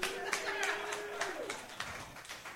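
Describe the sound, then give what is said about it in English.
A burst of audience applause with scattered claps, joined by a sustained whoop or whistle from the crowd. It is fairly loud, steady, and fades slightly toward the end. “Because hand jobs, round of applause.”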